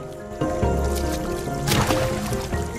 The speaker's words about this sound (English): In slow motion, a water droplet falling beside the tiny creature sends it flailing up into the air.